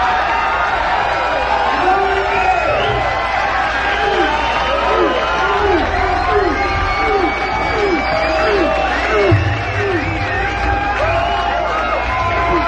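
A large concert crowd at the Paradise Theater in Boston cheers, whistles and applauds continuously after a live performance, a dense, loud wash of clapping and shouting from start to finish with no break.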